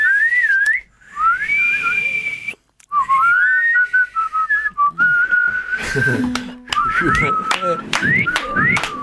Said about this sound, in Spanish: No me sale. Igual no me sale silbar.